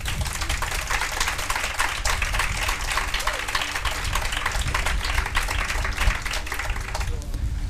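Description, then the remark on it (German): An audience at a book presentation claps steadily for several seconds, a dense crackling wash of many hands at an even, fairly loud level that thins out slightly at the very end. “Genau, auch einen großen Applaus für Franziska.”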